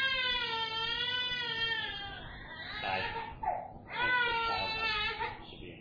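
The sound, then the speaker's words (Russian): An infant wails in long, sustained cries with a brief break in the middle, fairly loud, the crying resuming strongly near the end over a low hum. “Может быть, увести ребенка куда-нибудь подальше.”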